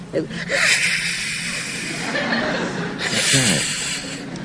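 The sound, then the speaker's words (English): A person makes a long, breathy hiss imitating an angry swan, recreating the noise made at Boris Karloff's creature by the actress playing the bride. It is a steady airy rasp with brief nasal snorts and a voiced catch near the end, fairly loud throughout. “I let out a noise like a swan.”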